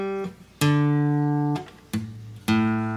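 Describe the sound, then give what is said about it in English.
Guitar strings being tuned: single notes plucked one at a time, each ringing out and fading before the next, with the pitch shifting slightly between plucks; the G string is a little sharp. No one speaks. “I'm glad he's tuning.”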